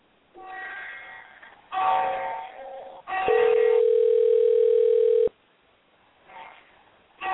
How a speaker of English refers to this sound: Okay, here we go. I'm going to go ahead and dial.